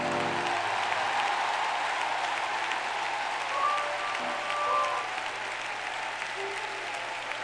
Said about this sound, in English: If you're going to get your shield of gold back, I want you to clap your hands and shout.